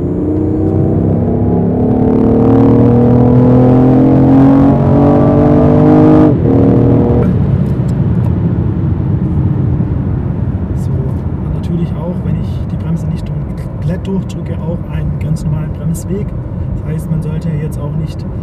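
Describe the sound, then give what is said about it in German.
A car engine revs up and pulls away with an outside temperature of 3 °C, its droning pitch climbing for several seconds before settling into a steady, loud rumble of engine and road noise. “Okay, wir fahren los.”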